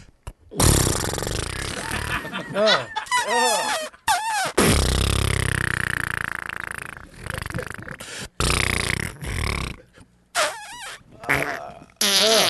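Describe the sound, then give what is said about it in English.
A voice imitates a man's loud fart, blowing a series of long, sputtering, buzzy raspberry bursts with brief pauses between them, forceful, like a broken horn or trumpet. “I'm going to replicate what his asshole sounds like, and this is no joke.”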